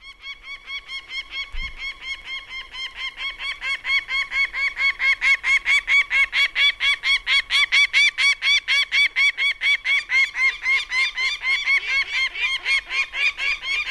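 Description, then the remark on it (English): Peregrine falcon cacking alarm calls, heard as an adult cacking with young birds joining in: a long, rapid series of harsh, raspy notes in a steady rhythm, building from moderate to loud and sustained throughout with no talking. “That's a cacking call or an alarm call, and what it sounded like I heard there was an adult cacking and some youngs joining in”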